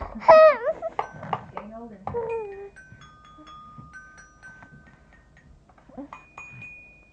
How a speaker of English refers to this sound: Those bells mean no tantrums allowed.